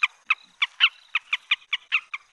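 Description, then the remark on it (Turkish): A colorful bird about 30 centimetres long calls in a quick series of about nine short, raspy notes at a steady rhythm, clear against silence with no voices. “30 santim dediğin aslında o kadar da küçük bir kuş değil.”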